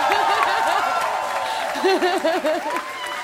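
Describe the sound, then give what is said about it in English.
An audience at a performance applauds an interpreter steadily for a few seconds, a dense wash of clapping with whoops and cheering voices rising over it, fairly loud throughout. “So I just want to applaud our interpreter one more time for rocking the shit.”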